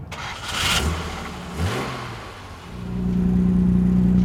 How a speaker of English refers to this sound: There are also European models like Vince Anderson's 1965 Jaguar E-Type. Not E for electric, of course. Do you mind firing up your car so I can hear it, so I can record it?